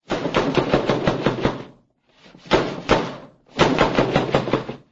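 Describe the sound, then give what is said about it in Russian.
Loud, rapid knocking on a door in three quick bursts, each a fast flurry of sharp raps with brief pauses between, forceful with no voices. “Вдруг раздался громкий стук.”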